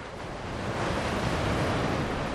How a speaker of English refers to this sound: Waves crash against the cliffs of Avila Beach.